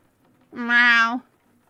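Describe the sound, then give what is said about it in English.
A single drawn-out meow, voiced by a person imitating a cat, loud, lasting under a second with a rising then steady pitch, surrounded by near silence. “It's meow.”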